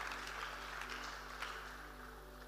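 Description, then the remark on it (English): A church audience claps for the Lord together in a dense, steady patter of many hands, fairly soft overall, with a low hum underneath and no voices. “Give the Lord a better clap of consumption.”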